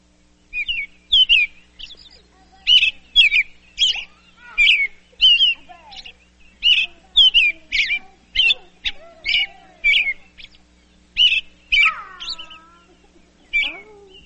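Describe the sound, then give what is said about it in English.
A robin sings a series of bright, repeated chirping phrases in steady bursts, clear, with short pauses between each phrase and no other sounds around it. “Early in the morning when I'm first waking up, it's usually the first bird that I hear.”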